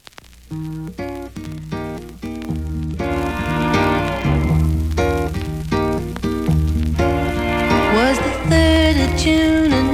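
A recorded cover of a pop song, released on the Hit label, plays on its own: a full arrangement of sustained instruments and a sung melody that bends in pitch, staying fairly loud and steady throughout.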